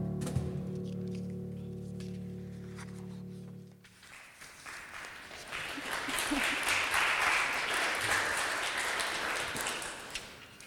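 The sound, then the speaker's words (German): A held musical chord fades out after the song 'This Little Light of Mine', then an audience in a Reformed church breaks into loud, sustained applause, a dense crackle of many hands clapping that continues steadily for several seconds. “Cool, ihr reformierten Kirche klatschen.”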